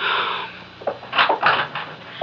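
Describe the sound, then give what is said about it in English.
A door is opened: a brief rustle, then several soft clunks and scrapes as the latch and hinges move, over a steady background hiss. “please open the door”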